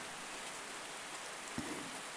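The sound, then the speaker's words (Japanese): Steady rain falls in a dense, hissing wash with faint pattering drops throughout, one slightly louder tap standing out briefly near the end; no voices are heard. “雨ですね。”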